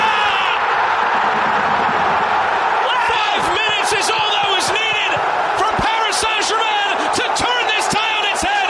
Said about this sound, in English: Let it breathe. Ah, yes. Fantastic. You love hearing the crowd, the excitement of the commentator.